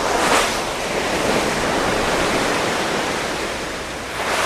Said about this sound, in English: So I'm able to head outside as huge waves crash against the side of the ship and send white froth into the air.